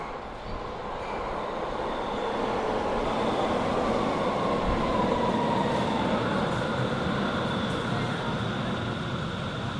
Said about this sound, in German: Jetzt kommt der Zug.